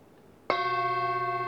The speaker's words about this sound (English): Set your intention if as a speaker or as a listener as to how you'll practice in the next 2 minutes. Okay? I'll ring the bell in 10 seconds.